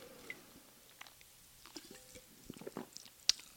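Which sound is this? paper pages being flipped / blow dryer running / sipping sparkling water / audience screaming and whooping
sipping sparkling water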